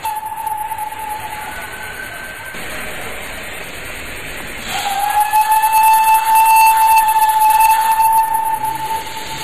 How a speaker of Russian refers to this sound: Вот паровоз пустил пар, и поезд тронулся.